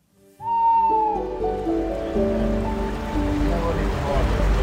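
Asp fish splashing in a river, heard as steady, fairly loud churning water with no clear pause, plus a brief whistle-like tone near the start and faint tonal sounds underneath.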